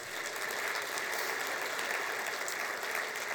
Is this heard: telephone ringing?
no